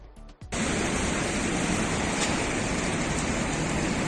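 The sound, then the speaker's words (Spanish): A dense, steady roar of rushing water fills the scene after a brief quieter start, loud and continuous, a swollen river in flood flowing past Logroño, La Rioja, Spain, at night, with no voices. “Así bajaba el río esta noche a su paso por Logroño.”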